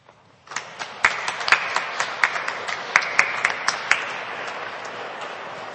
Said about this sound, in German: Und Jörn Hilfrich hat noch einen Applaus verdient.